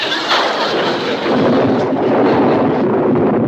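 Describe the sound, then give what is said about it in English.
A loud, continuous roll of thunder from a lightning storm rumbles and crackles for several seconds, swelling deeper and heavier partway through, with no voices over it. “Storm! It's starting! Excellent. The lightning will give me the additional electricity I need.”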